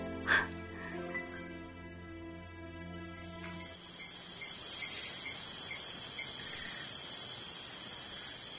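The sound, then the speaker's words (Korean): Cicadas buzz vigorously in the woods beside a road in a dense, steady outdoor drone with repeated pulsing chirps, rising after a few seconds and continuing to the end. A single harsh bird call sounds at the very start. “길 옆 숲속에서 매미들이 기세차게 울어댔다.”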